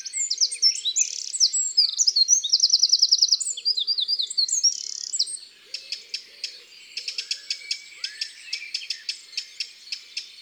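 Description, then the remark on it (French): A Eurasian nuthatch sings alone: first a fast run of bright, ringing notes, then a steady series of sharp, repeated whistles at an even pace. “Le chant de la citelle.”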